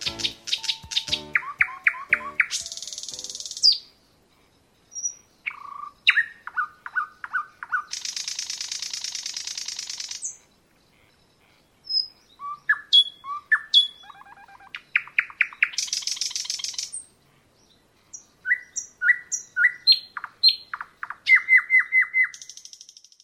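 A nightingale sings clearly, alternating rapid repeated chirps, buzzy trills and pure whistled notes in varied phrases separated by brief pauses, with no other sounds.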